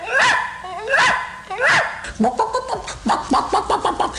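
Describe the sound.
A person does an imitation of a dog barking: three loud woofs about a second apart, followed by a quicker string of short, choppy yips and vocal bursts.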